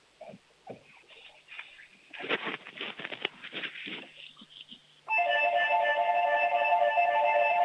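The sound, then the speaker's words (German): Scuffling, quick patter-like footsteps as a five-year-old child in Bavaria, Germany, runs to show off the doorbell, then a loud doorbell rings out as a steady, buzzing multi-toned chime that holds unbroken until the end. “Das ist ja eine tolle Türglocke.”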